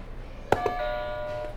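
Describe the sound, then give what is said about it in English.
A game buzzer is pressed twice in quick succession, with two sharp taps followed by a bright, bell-like tone that rings on steadily for under a second before fading, over faint background noise. “You can hit one of these buzzers for us.”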